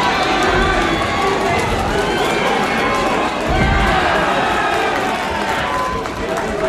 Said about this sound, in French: Et tout autour, donc il y a surtout des encouragements, les gens rient.